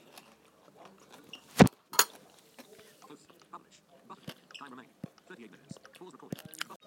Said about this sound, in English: Well, I'm going to pause this audio book because I don't think they need to hear me crunching coleslaw.